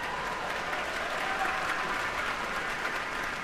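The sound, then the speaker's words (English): Sustained applause from a large audience fills a concert hall after an Oregon Symphony performance, thanking the musicians, a dense, steady wash of clapping hands at even loudness throughout, with no voices standing out. “And give yourselves a big round of applause for being such wonderful listeners and explorers of music.”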